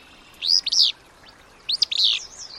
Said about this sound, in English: Meanwhile, the male continues to sing, defending his territory from other flycatchers, so the pair and their young will have an abundance of food.